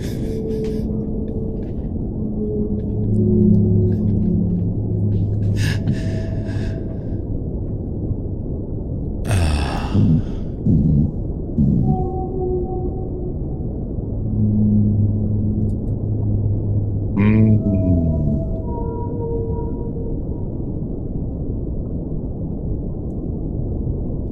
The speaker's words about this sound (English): You were trying to harmonize with the whale at one point, and that kind of threw me off.